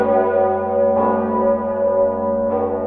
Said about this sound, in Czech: Zajímalo mne, kdy zajít na hrad, abych měl jistotu, že uslyším zvony v plné kráse.